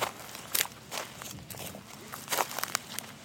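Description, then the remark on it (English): Footsteps walking across a field in Mifflinburg, Pennsylvania, each step a soft crunching rustle at a steady unhurried pace, with no voices, just a faint background hush. “Crossfade with walking sounds, footsteps in a field.”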